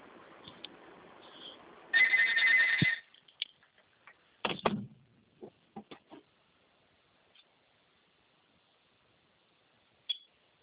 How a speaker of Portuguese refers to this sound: Só um minutinho, tá tocando outro telefone aqui?